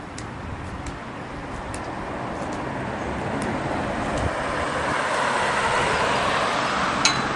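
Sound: street traffic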